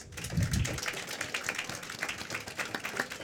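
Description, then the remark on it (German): A short round of applause from a small group, a dense patter of hand claps that carries steadily for a few seconds with no talking. “Da vielleicht auch mal einen kleinen Applaus.”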